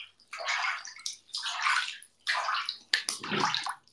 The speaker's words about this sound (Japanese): 雑談 ASMR 最高。これ ASMR なってる？どう？お水の音。